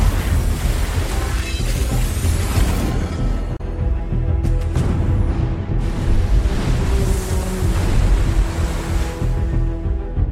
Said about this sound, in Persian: اینجایی داستان بود که طوفان به پا شد و سرنوشت دنیای پریا و آدم‌ها حالا به دست آرتمیس بود.